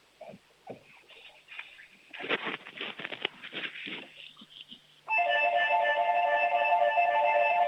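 Soft scuffling and patter as a five-year-old boy in Bavaria, Germany runs to show his doorbell, which then suddenly rings, a loud, steady, buzzing tone rich in overtones that holds without a break to the end.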